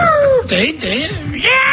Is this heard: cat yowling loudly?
yes